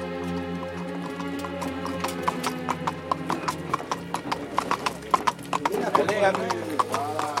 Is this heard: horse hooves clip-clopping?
yes